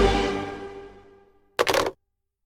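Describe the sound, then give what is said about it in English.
A sustained musical tone fades out, then a short, loud, crackly crunch follows as someone bites into a ghost cookie, lasting under half a second with a few rapid crackling pulses. “Crunch. I broke a tooth. Eating my ghost cookie”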